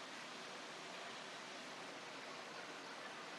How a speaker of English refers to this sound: Hopefully you're hearing the sound of the ocean as I am. And the birds in the background.